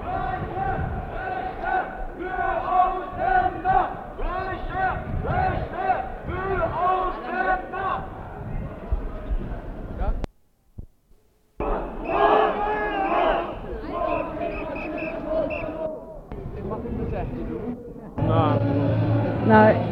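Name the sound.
protest crowd chanting slogans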